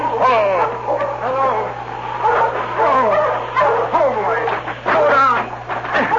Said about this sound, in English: He barked a warning to his master when he saw the team heading toward them.